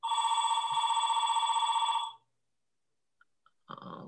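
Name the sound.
telephone ringing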